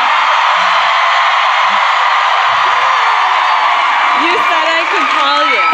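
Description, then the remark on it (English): A large theater audience at the Riverside Theater screams and cheers at full volume while a voicemail message is being recorded, a dense, sustained roar of voices lasting throughout, with a few individual yells and whoops rising out of it near the end. “Then we'll scream.”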